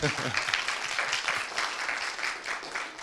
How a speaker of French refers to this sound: Donc, je remercie nos deux intervenants, et donc la Cité de la céramique de Sèvres tout particulièrement. En faisant cette désannonce, oui, je vous laisse les applaudir.